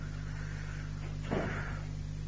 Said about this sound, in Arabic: هذا الباب إذا ممكن أخاف صوت ما يؤثر على أحد، إذا أكو أحد يبلي سدوه